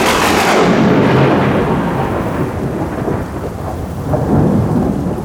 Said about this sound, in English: It was rainy and snowy. The wind was terrible. It was difficult to stand up. Suddenly, there was thunder and lightning.